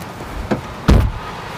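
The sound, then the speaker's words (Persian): The door of a silver car shuts with a solid, low thud, preceded by a faint latch click, against quiet background noise. “بله صدای در ماشین بود. بله ماشین نقره‌ای شما، صدای در ماشین شما بود.”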